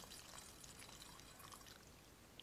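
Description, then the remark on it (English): A steady, gentle pour of 2000 vintage port wine runs continuously through a muslin cloth to strain out its deposit for a couple of seconds, a soft trickle with faint splashy detail and no talking. “So, nice and gently, just a nice steady pour into that muslin.”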